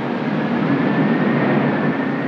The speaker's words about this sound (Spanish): Y el chillido del huracán que se aproxima.